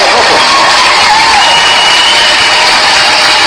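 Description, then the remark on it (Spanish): Sustained applause from a crowd, a dense, loud hiss of many hands clapping together that holds steady for a few seconds, with no talking over it. “¡Aplausos!”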